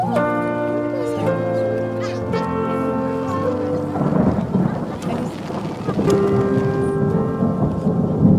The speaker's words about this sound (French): Donc arrivé sous l'orage,